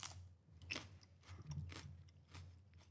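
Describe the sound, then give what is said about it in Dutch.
Crisp crunching of someone biting and chewing a raw green pepper, with several wet, crackly chews in an irregular rhythm and no talking. “Ik neem gewoon nog een hap.”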